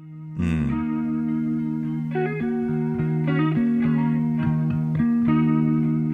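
Wobbly, lo-fi electric guitar with a warbling effect holds a low droning note while quick hammered-on notes pop in above it every second or so, steady and fairly loud, with no voices.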